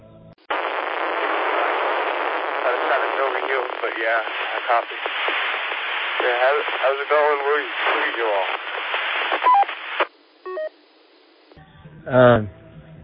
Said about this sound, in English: I'm just receiving a lot of static. I heard some voice in the background, but I couldn't tell who it was, really.